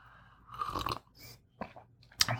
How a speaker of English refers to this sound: Now I'm having a little bit more, and I'm going to slurp it up for the ASMR crowd.